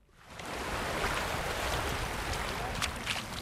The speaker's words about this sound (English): Where we are, first of all, it's very windy, but sunny at the same time. That's what they call Irish weather, right?